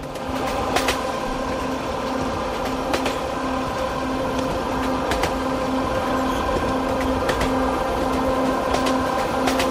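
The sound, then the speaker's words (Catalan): A steady ride aboard a train in western Mexico, part of more than two weeks of field recordings: a continuous low rumble with a sustained hum, broken by sharp rhythmic clacks of wheels over rail joints at irregular intervals, with no voices. “i la gràcia és que ell, amb els sons enregistrats en aquest tren durant més de 2 setmanes, va fer un disc que per mi és música només amb elements captats en aquest viatge que va fer.”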